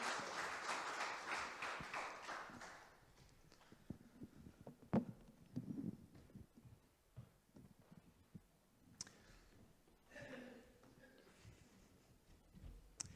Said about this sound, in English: Should we give them a round of applause as they attend their seats? Thank you so much.